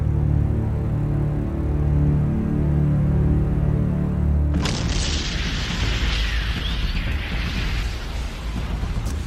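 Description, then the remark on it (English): A low, steady drone is suddenly broken by a loud, sharp explosion, followed by several seconds of roaring, crackling rumble and scattered debris as the blast fades. “So I think there was just an explosion.”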